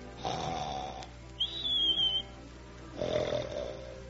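A woman snores in bed: a rasping inhale, a thin high whistle on the breath out, then another rough snore, fairly loud with no talking.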